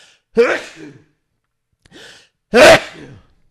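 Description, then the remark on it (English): Two loud sneezes about two seconds apart, with a softer breathy burst just before the second one. No talking, just the sneezes and the quiet between them. “It sounds like the Republicans have put some sneezing powder in front of me today.”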